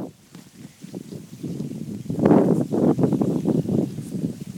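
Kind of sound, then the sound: nature, wind blowing outdoors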